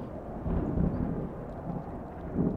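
Deep, rolling thunder from a lightning storm rumbles continuously, swelling in a few heavy surges over a dense low roar, with a gritty stormy wash and no voices.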